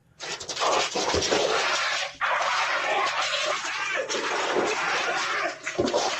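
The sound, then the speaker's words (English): A black bear that has come running onto a home's patio growls and huffs, loud rough breathy bursts mixed with scuffling noise that carry on almost continuously for several seconds. “this black bear just comes running in”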